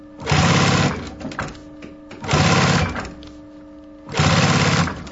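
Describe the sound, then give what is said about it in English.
A heavy sewing machine in a belt maker's workshop runs in three short, loud bursts of rapid, thudding stitching as belts are made, with brief mechanical pauses and clunks between runs, with no voices. “This is a sewing machine, a very heavy one.”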